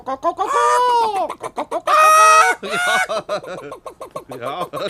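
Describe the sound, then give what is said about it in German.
A person imitates roosters, producing a rapid series of loud, strained clucks and squawks with several drawn-out crowing-like calls. “Vielleicht ein paar Hähne?”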